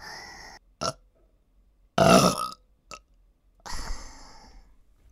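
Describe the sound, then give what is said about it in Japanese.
A series of wet burps with short pauses between them: a loud, drawn-out belch in the middle, flanked by several shorter gulps and a longer rumbling one at the end. No talking. “またゲップされちゃうよ。”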